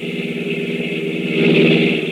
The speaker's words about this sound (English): There's a car coming, all right. See any headlights? No.